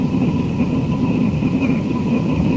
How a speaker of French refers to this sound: Bon, concrètement, c'est du souffle, c'est du larsen. Là, elle produit pas grand chose, cette machine. Non, ça, c'est ce qu'on appelle un bruit blanc.